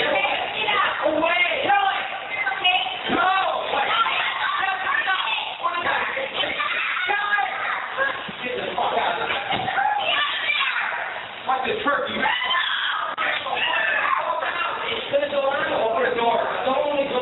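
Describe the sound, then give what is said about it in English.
Several children shriek and shout over one another in a loud, continuous commotion as flames shoot out of an oven with a turkey inside, the kids screaming to get the turkey; their excited high-pitched voices overlap with other people talking. “And there's kids screaming, get the turkey!”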